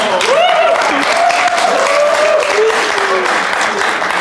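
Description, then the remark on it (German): Steady, loud audience applause on the show PIP fills the whole stretch as a dense wash of clapping, with a voice talking or calling over it. “Ein bisschen Applaus selbst für die geringste Leistung.”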